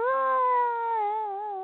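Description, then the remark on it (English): A single screechy violin chord, the first chord struck, bowed unsteadily for under two seconds, the tone wavering and slightly strained, moderately loud, with no talking. “No, that's a violin bow.”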